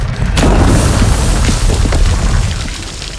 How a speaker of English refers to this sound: Oh, what's happening? The ground. It's shifting.